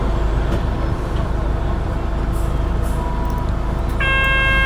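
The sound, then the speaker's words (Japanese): A bus engine rumbles loudly and steadily as the bus departs from a bus stop, and a short bright tonal chime rings out near the end. “発車します。 ご注意ください。”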